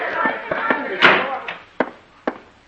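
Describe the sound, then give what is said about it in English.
A door slams shut, one of several sharp, heavy thuds spaced over a couple of seconds, with indistinct voices and background noise murmuring underneath. “Shut the door.”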